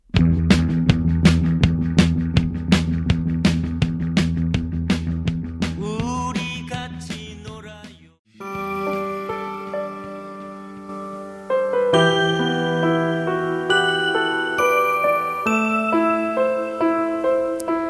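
A band song plays, opening with a steady, punchy beat and bright chiming tones, then breaking off briefly before fuller sustained chords and instruments continue at an even, lively level.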